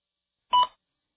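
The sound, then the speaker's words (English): A single short electronic beep, clear and moderately loud, sounding alone against silence for a fraction of a second, signaling a test-taker to begin speaking. “Please begin speaking after the beep.”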